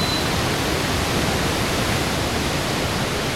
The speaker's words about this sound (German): Sie hatte den Wasserfall schon gefunden und der war so laut, dass man gar nichts anderes hören konnte.